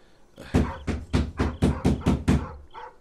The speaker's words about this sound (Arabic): يداك مشغولتان بالطبق، اسمح لي بطرق الباب ثم أرحل.